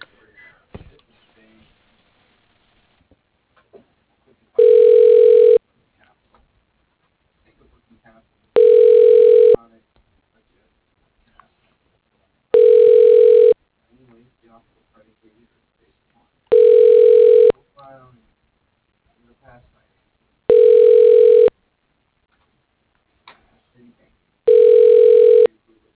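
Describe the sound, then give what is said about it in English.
A telephone ringing tone repeats six times as a company operator rings an office extension for a caller: loud, steady, buzzy pulses about a second long, evenly spaced a few seconds apart, with faint murmurs in the gaps. “Let me ring for you.”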